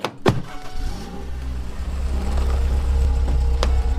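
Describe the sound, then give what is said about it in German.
A car engine rumbles and grows steadily louder, its deep throbbing building as the car pulls up, with a sharp click or thump at the very start. “Zart, dann musst du wohl dein Auto holen”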